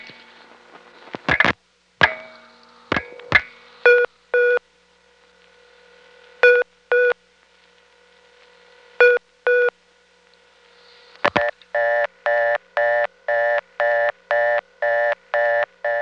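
Coin maintenance test line tones, code 511, a test line invented by Bell Labs in 1973, dialed from an older three-slot coin telephone: a few sharp clicks and short paired electronic beeps with pauses between, then a rapid, steady run of repeated tone pulses to the end. No talking.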